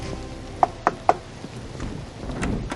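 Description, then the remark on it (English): Three sharp, evenly spaced knocks on a door in quick succession, fairly loud, followed by quiet background with no voices. “This is the one knock I dread, and it never gets easier.”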